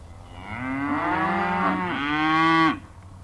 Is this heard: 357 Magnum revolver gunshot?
no